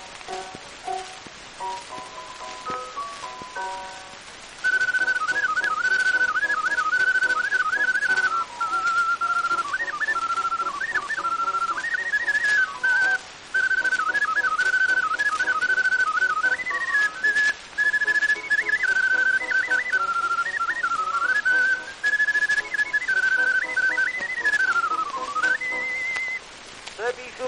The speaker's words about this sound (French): L'ocarina de la maison Ullmann. Ullmann de Paris réclame non payé.